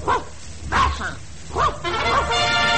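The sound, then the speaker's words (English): A dog, Handsome Dan, barks several times in short, spaced bursts, loud, in reply to being asked which is his favourite college, with a faint steady hum behind it that thickens toward the end. “Harvard is guilty of dog-napping, my friends.”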